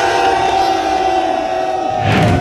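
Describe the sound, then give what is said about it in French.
A crowd of about 300 protesters shouts in anger in a dense, continuous roar of many voices, with a sustained tonal hum running beneath and a surge of louder yelling toward the end. “et là on est 300 à crier un petit peu notre colère.”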